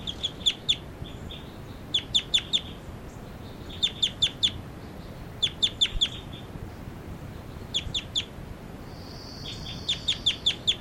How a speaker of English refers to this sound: This is bird 40. Giving flight calls.